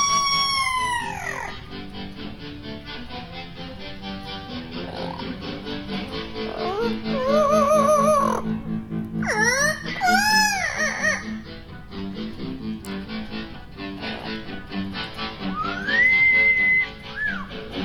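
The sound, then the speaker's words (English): A pet bird named Tico chirps and sings, mixing rising whistles, sweeping trills and warbling notes in bursts over about eighteen seconds, with no talking. “So let's call up some new bird chirping music, and let's see what Tico has for us today.”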